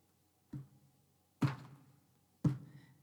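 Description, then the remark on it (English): Three heavy, low knocks land about a second apart outdoors, each a deep thump with a short decay, fairly loud against near silence. “And he heard this big thumping sound.”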